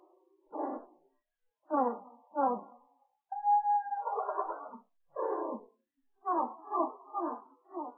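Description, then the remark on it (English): Hummingbird chirps, recorded at regular speed and slowed down about three or four octaves, become a series of low, warbling, whimper-like calls in short bursts, with one longer held tone midway, sounding eerie and almost voice-like. “I recorded them at regular speed. They just sounded like a bunch of chirping sounds. And then I slowed it down about 3 octaves, maybe 4.”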